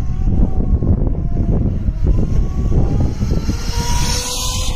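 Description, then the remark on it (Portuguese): Heavy wind rumble buffets throughout while a thin electric motor whine rises and brightens toward the end as a racing motorcycle passes, its high-pitched tone partly masked by the gusts. “E, claro, para a devida comparação, temos de ouvir também o som dessa mobilidade elétrica de que tanto se fala.”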